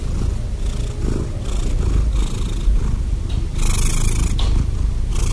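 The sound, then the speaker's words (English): A cat purrs steadily, a continuous low rumbling vibration that rises and falls with each breath, with no voices present. “how do cats purr?”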